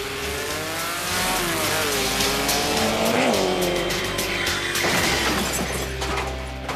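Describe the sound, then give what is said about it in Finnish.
A short traffic jingle built from car sounds: a steady engine drone with rising and falling revs, a brief tire squeal and a sharp crunch midway, with no talking. “Hirveän rauhallinen muuten toi meidän liikennetunnari.”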